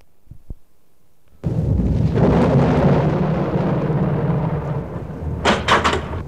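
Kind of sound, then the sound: nature, thunder and rain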